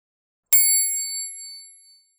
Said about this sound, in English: Turn the page when you hear the bell.